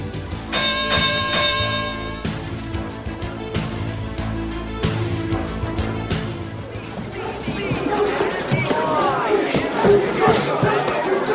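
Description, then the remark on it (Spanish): A boxing ring bell clangs in a quick series of bright metallic strikes, its ringing tone hanging at first, while a crowd murmurs underneath and grows louder as the strikes fade. “Solo falta que suene la campana para poder escucharla.”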